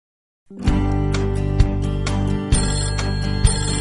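A telephone rings with a continuous bright trilling bell, loud, over a steady musical backing with a thumping beat roughly every second. No one speaks.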